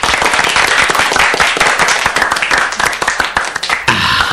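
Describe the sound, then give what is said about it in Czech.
A canned applause sound effect played by pressing a button on an applause machine: dense, crackly clapping from many hands, held at a steady loud level for about four seconds before briefly thinning at the end, with no voices. “To bol, tuším, potlesk. Potlesk to bol, áno.”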